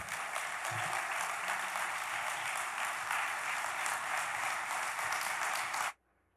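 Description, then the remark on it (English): An audience breaks into steady, dense applause, a loud continuous wash of many hands clapping that holds for about six seconds and then cuts off abruptly into near silence. “So let's all applaud him, let's bless him, and let's pray for him.”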